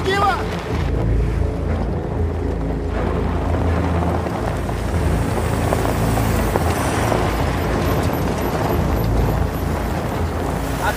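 Loaded pickup trucks rumble by with a steady, loud, low engine drone and gusty wind buffeting, the noise holding at an even level throughout without a distinct approach or fade.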